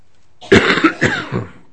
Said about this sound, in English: I'm sorry, my wife and I are coughing away here.